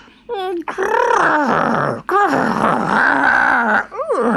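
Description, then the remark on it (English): A boy imitates a tiger's growl, growling back at a tiger: loud, drawn-out rumbling growls with rising and falling pitch, broken by two short breaths, and no words spoken. “And Sudhi growled right back.”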